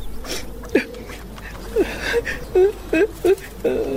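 A woman cries and sobs in a series of short, choked, wavering bursts, close by, coming in an uneven rhythm that quickens toward the end.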